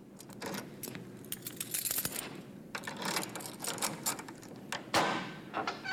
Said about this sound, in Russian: но из прихожей послышался звук отпираемой двери, какая-то возня и сопение.